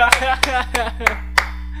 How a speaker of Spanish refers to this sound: Aplausos para La Casa de Papel.